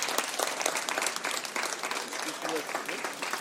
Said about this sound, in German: Riesenapplaus für den 1. Preis, der jetzt übergeben wird. Da müsst ihr leider rüberkommen, weil wir kommen nicht auf die Bühne. Genau, da dürft ihr alle noch mal laut klatschen.